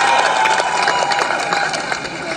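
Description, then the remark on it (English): Steady applause from a crowd on the steps of City Hall in New York City for Megan Rapinoe's teammates, a dense wash of clapping with a few cheers mixed in, holding at a fairly loud, even level throughout. “Give them a clap.”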